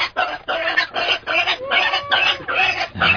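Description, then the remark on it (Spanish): A pig grunts and oinks in a quick series of about six or seven short, nasal bursts, fairly loud, with no one talking. “Pero ahora, ¿qué hago con este cerdo?”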